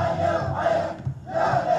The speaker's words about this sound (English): Workers greet him with a band and mindless cheers.